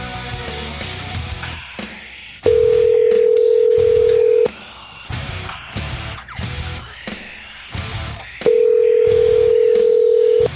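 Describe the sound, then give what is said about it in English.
A phone line rings back twice on an outgoing call, each steady tone lasting about two seconds with a long pause between, loud and clear over faint background chatter. “Now it's, wait, hold on. It's ringing.”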